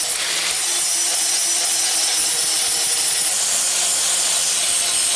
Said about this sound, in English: Don't you want to kill him with all the noise between the banging and the grinding?